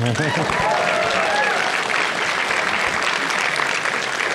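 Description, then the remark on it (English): A steady wash of audience applause, dense and loud, with many hands clapping at once; a few brief voices and a faint whoop rise over the start before the clapping carries on evenly. “You can clap.”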